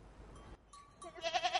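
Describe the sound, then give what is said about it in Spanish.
A goat or sheep lets out a short, quavering bleat that wavers rapidly in pitch, rising out of faint background rustle near the end. It is moderately loud. “mira, una cabra.”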